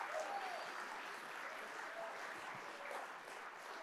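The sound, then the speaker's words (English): An audience claps their hands in praise, a dense, steady wash of applause filling the space, with faint voices calling out beneath it. “You need to clap your hands to give him praise right now.”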